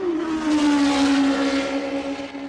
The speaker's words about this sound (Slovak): Rýchla formula blížiaca sa k pozorovateľovi vydáva z jeho pohľadu iný zvuk, ako keď sa vzdialuje.